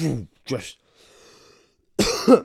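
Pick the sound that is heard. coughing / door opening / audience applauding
coughing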